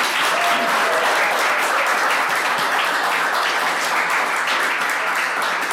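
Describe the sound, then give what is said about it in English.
A large audience at a Royal Society Special at the Science Museum applauds the show's guests steadily, dense overlapping claps forming a loud, sustained wash of sound that holds at an even level throughout, with no voices standing out. “First of all, give all our people a wonderful round of applause.”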